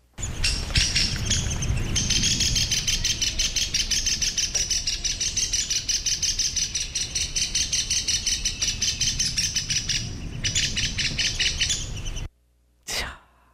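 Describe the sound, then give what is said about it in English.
A downy woodpecker's alarm calls ring out as a rapid, insistent series of sharp, high chattering notes for about twelve seconds over a low rumble, then stop abruptly before one last brief burst. “Yes, we are going to listen to the alarm call of the downy woodpecker, which is relatively common.”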